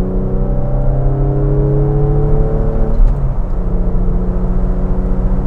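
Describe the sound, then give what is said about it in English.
A car engine accelerates through fourth and fifth gear at about 4,000 RPM and 70 mph, its droning pitch climbing steadily before dipping at a gear change and rising again, loud with a constant road rumble and no voices. “Ah, this is a nice car. 4,000 RPM, 70 mile an hour dinger. Fourth gear, fifth gear.”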